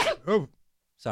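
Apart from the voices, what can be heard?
sneeze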